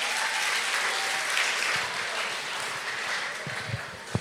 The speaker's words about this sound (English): We have visitors in the house. Give them a hand clap.